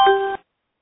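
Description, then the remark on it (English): A single short electronic chime on a conference call as someone joins, a bright multi-tone ding lasting about a third of a second, loud and clear, then cut off into silence. “So I guess the public, when they join us, is just going to chime after all.”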